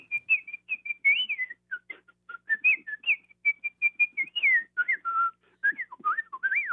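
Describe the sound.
A person whistles a quick, fluttering bird-like melody, the little bird theme from Prokofiev's Peter and the Wolf, with rapid trills, leaps and slides between bright high notes, clear with no talking.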